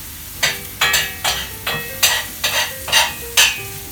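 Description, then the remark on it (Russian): Onions being stirred in a hot frying pan: about eight quick, rhythmic scraping strokes over a steady sizzle, fairly loud, with no one talking. “Немного перемешай лук, Дим, иначе он у нас так сгорит.”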